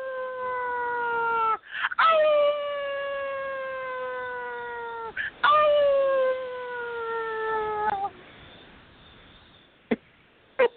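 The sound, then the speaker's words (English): A person howls like a werewolf, giving three long sustained wavering howls that slowly fall in pitch, loud, with short gaps between them and brief clicks at the end. “It was a howling good time.”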